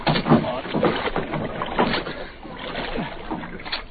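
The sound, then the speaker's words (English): People and a dog clamber into a small rocking boat, with thuds of footsteps on the hull, wooden creaks and the slosh of water, fairly loud throughout. “Come on, into the boat.”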